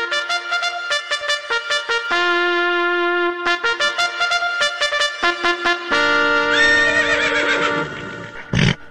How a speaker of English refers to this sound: that horse scares me. It's getting ready to run. It's getting ready to run.